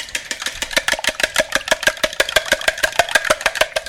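A fork whisks three eggs in a bowl for bread dumplings, making a fast, steady run of bright clinks and scrapes, roughly eight strokes a second, continuing evenly throughout with no voices.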